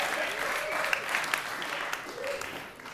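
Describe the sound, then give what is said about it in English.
Steady applause from a church audience for the worship team, a dense wash of clapping that holds at an even level for a few seconds, with faint cheers or voices rising briefly underneath. “Guys, can we clap it up for our worship team leading us into the presence?”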